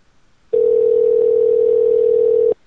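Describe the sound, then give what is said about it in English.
A phone line ringing on an outgoing call to a Denny's restaurant: one steady, loud electronic ring tone lasting about two seconds, then cutting off, with no voices around it. “So they should pick up the phone.”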